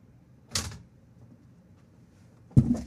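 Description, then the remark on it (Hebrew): A door closing sound effect: two sharp wooden impacts about two seconds apart, the second louder and heavier, over a quiet low rumble with no one speaking. “השתגרתי בחזרה לאולפן, שמעתם אפקט של דלת נסגרת, ואני בכל זאת באולפן.”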